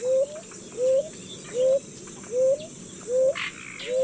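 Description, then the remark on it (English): A ground dove, a small dove of the American tropics about 6 inches long, coos in a steady series of six short, low notes, each rising slightly in pitch, evenly spaced about half a second apart, with faint insect-like buzzing behind. “At the small end are several species of ground doves of the American tropics, measuring 6 inches, not much bigger than a sparrow, and ranging from bright cinnamon brown to dark blue.”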